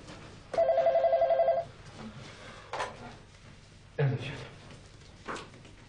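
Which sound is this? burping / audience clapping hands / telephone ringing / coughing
telephone ringing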